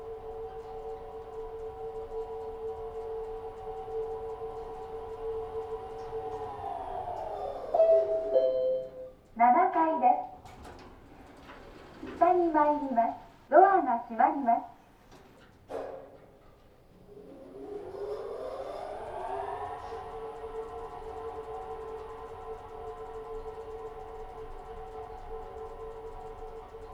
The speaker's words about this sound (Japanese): 正面入り口から見て一番左にある2機のエレベーターは、他のエレベーターと違って7階まで行くとモーター音が聞こえてくるんです。